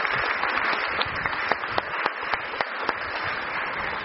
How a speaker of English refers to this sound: And it's so wonderful to have you as part of this church. Should we just give them a big round of applause?